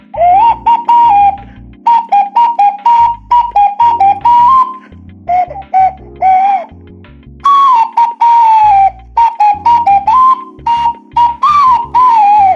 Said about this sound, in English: Terrible, isn't it? God, I love this ocarina.